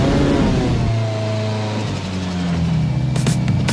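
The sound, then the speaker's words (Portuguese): A car engine revs loudly, its deep droning pitch stepping up and down a few times, with a couple of sharper rasping bursts near the end and no voices. “E no domingo, às 18 horas, o Centro Cultural Povos da Amazônia, localizado na Avenida Silves, no Distrito Industrial, haverá o encontro de carros antigos.”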